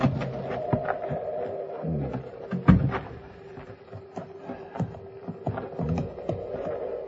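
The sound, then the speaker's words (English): Slow, uneven clip-clop of a horse's hooves on hard ground, a steady series of knocks over a low background hum, with no one talking. “Come out the back to get your horse bedded down. If you want to lead him, I'll show you the way.”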